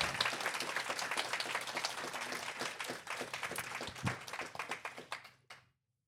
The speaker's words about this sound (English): I think, can we give them a little bit of a cheer? Yes. To say good luck tonight? Yes.